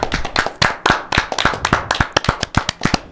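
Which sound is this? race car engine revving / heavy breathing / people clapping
people clapping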